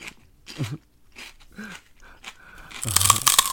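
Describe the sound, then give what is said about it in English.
Crisp crunching from celery being bitten and chewed, several irregular bites building to a louder, denser burst of chomping near the end. “That terrible, obnoxious, crunching sound.”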